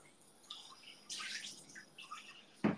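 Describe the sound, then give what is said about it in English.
Sukiyaki sauce pours and splashes into a sink strainer standing in the sink in short, soft bursts, followed by a sharp clunk near the end. Fairly quiet, with no talking. “And then maybe also pour the sukiyaki sauce over it so that it catches all the waste.”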